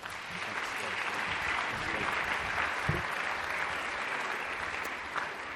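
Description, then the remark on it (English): A room full of people claps steadily as a guest speaker comes up to lead them in the morning, a dense, even wash of applause that holds at a constant level for several seconds without building or fading, with a faint murmur underneath. “Thanks for that obligatory applause.”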